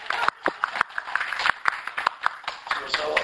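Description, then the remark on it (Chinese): A small audience in a class breaks into brief applause for a student's presentation on chapter nine, a scattering of sharp, uneven hand claps that keep up at a moderate level for a few seconds. “这个很棒，我们可以给他一个掌声吗？”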